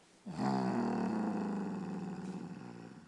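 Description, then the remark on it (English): A deep, rumbling growl swells in suddenly and holds for nearly three seconds, loud, with a rough, throaty texture that slowly fades toward the end. “Who do you growl at?”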